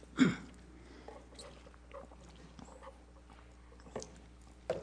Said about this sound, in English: But that little swig of water, and that was water, incidentally, that I just swigged there, a few ice cubes in there.